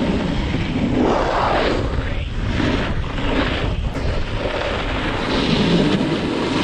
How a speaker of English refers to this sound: The loud scraping and crunching sound of a snowboard was unsettling for some skiers.